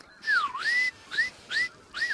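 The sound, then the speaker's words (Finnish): A person whistles an imitation of a northern lapwing's call: four wheezy, slurred notes, the first long and dipping then rising, followed by three shorter upward-sweeping whistles, with no talking. “Vähän tietysti paremmin tehtynä silloin, kun lintu itse sitä tuolla heittelee, mutta tässä vielä viime keskiviikon vauhdilla tein näitä itse tähän näin.”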